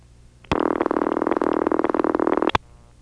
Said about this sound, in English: That's a near perfect match. This is what they called old crossbar ring. Again, this was named by the Southern California freaks. They should have called it old crossbar 5 ring.